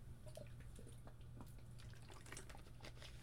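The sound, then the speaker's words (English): Someone getting a drink of cold water: quiet liquid trickling and small splashy clicks over a steady low hum, with no one speaking. “After I get a drink of water, doing all these voices, you know, it's just murder on your throat.”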